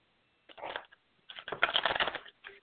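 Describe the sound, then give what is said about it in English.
Close, crisp riffling of a deck of cards being shuffled in two quick bursts, a short flutter followed by a longer rapid cascade of clicks, with no voices. “Let's take a look here. We are shuffling, aiding.”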